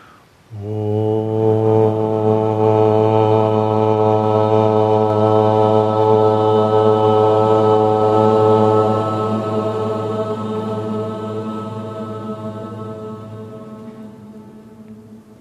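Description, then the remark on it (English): A group chants a single long, low Om in unison, a steady droning hum rich in overtones that holds for about fifteen seconds before slowly fading. “And together, let's draw in a breath and we'll share the sound of Om.”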